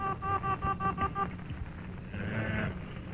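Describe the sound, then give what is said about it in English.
A dictaphone being wound back as its needle is pushed back: a fast run of chirpy, stuttering electronic pulses, then a brief squealing whir, fairly loud with no talking. “So you push the telephone needle back.”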